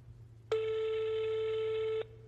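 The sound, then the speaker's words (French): A single steady ringback tone sounds through a phone line as a man on the road tries to call his wife, a flat mid-pitched beep lasting about a second and a half over a low background hum, then cuts off. “Sur la route, il essaye de l'appeler.”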